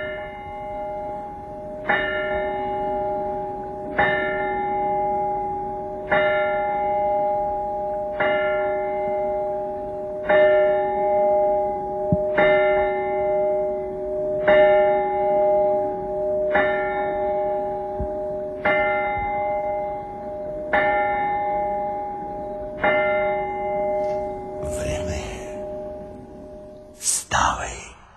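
A clock bell strikes twelve times at a slow, steady pace, each deep ringing stroke humming into the next, followed by a short burst of rustling noise at the end.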